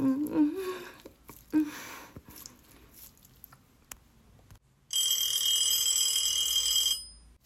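A telephone rings with a shrill, steady electronic trill lasting about two seconds near the end, loud. Faint scattered rustling and low murmurs come before it.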